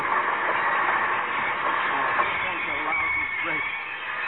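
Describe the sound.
A steady, continuous rumble of a moving passenger train, a dense droning roar that holds even throughout, with faint indistinct voices and honk-like tones mixed into the din.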